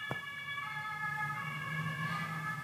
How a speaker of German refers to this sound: Wegen der Sirene habe ich gewartet.